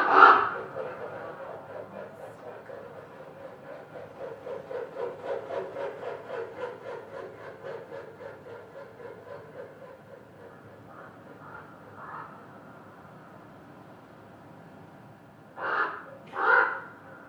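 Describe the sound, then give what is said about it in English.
A raven makes a close flyby overhead with a steady run of loud, rhythmic whooshing wingbeats, bracketed by a harsh croak at the start and a couple of hoarse calls near the end. “But this is a really close flyby, and you can hear their wings whooshing because their wings are super loud.”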